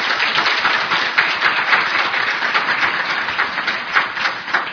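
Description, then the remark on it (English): An audience at a Kol Yom Rishon, Midreshet Yom Rishon event applauds steadily, a dense crackle of many hands clapping at once that stays loud and even for the whole stretch, with no voices over it. “He deserves now another round of applause.”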